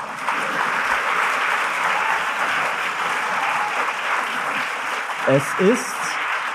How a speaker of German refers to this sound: Ja, klatscht mal für euch selber vielleicht.